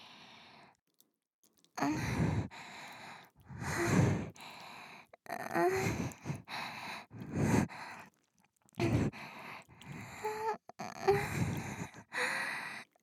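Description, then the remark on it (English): Heavy, uneven breathing with no speech: a series of loud, breathy sighs and gasps, roughly eight bursts over thirteen seconds, separated by short pauses. “Or is it that with your pussy this wet and your heavy breathing?”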